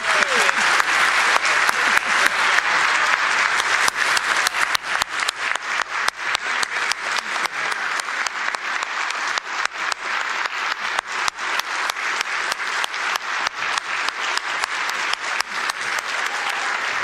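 A crowd applauds steadily for the whole stretch, a dense wash of many hands clapping at a fairly loud, even level without pause.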